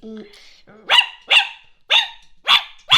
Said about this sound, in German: Ja, aber im Sinne von, du hast, dein Hund hat gebellt und du hast danach gebellt.